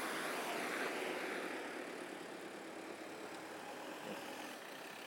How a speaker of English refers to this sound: I don't know if this car's coming out of here or. Where's he waiting? Sounds like the one could be one behind it too.